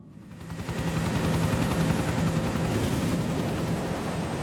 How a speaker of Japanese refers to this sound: え、 何、ヘリ、パノラマ島に今。